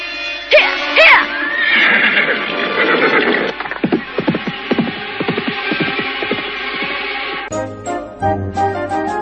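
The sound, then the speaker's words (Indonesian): A horse lets out a loud, shrill whinny, followed by several seconds of rough, rhythmic thumping before the sound abruptly changes near the end. Someone has just been put up on the horse. “sudah aku naikkan ke kuda ini.”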